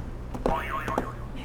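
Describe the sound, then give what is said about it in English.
A pressed buzzer button plays a short, cartoonish sound effect: a wobbling, warbling tone that rises and falls a few times over about a second, with light clicks near its start, heard alone. “All right, you can go ahead and hit another buzzer for me, okay?”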